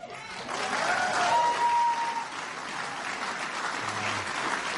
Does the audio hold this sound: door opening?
no